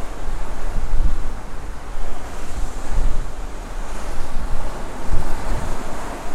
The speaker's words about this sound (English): And I'm leaning over, and there's 10 stories down, actually 6 stories down to the waterline. And the Atlantic Ocean is waving and swelling and moving below me.